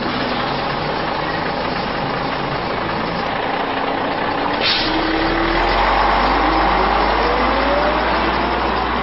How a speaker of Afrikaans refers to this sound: Maar wag, daar kom my bus.